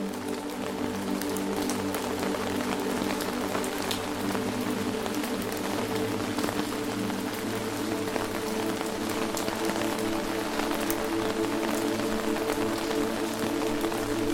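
Steady rain patters on an open umbrella held on a forest path, a dense continuous wash of tiny drop impacts with occasional sharper taps, constant in level throughout and with no voices.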